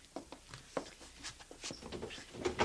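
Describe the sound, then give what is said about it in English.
A desk drawer is pulled open to get a bottle out, followed by a quiet run of irregular wooden knocks, scrapes and small rattles as things shift inside. No one speaks. “There's a bottle in the desk drawer over there, Chester. Get it for me, will you?”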